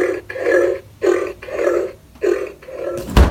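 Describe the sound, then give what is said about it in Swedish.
A novelty diet pig gadget, given as a Christmas present, oinks when the fridge is opened: five loud, low, snorting grunts in a steady rhythm, ending with a short sharp clatter. “En sån där bantningsgris. Som vad fan är det? Som gör ljud när man öppnar kylen.”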